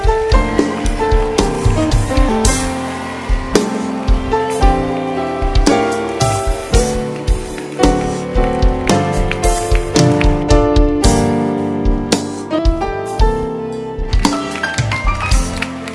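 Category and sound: crowd, audience hand clapping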